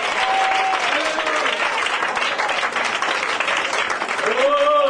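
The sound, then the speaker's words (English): An audience at worship claps hands for the Lord in a dense, sustained burst of applause, loud and continuous throughout, with voices calling out and rising tones faintly audible beneath the clapping. “Give the Lord a hand clap now.”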